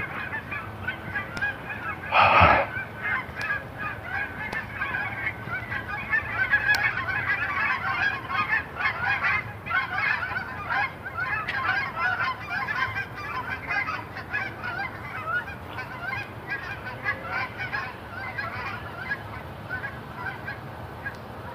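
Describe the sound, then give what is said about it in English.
A flock of geese honks repeatedly right overhead, a dense, continuous chorus of calls with one loud burst early on, passing above without any talking. “Geese.”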